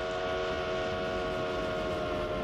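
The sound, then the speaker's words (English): A passing train sounds a loud, sustained horn chord that holds for a couple of seconds over a rumbling, noisy background, its pitch shifting as it passes (Doppler effect), with no voices. “At the speed of a train, you can sense the change of pitch for sound, but not for light.”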